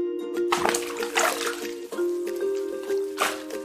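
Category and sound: household object, bath water splashing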